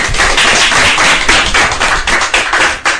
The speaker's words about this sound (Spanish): Un fuerte aplauso para vosotros y gracias por participar y por estar en nuestro programa.